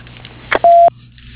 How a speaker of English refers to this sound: I'm not at my desk right now, but if you'll leave a message after the beep, I'll return your call.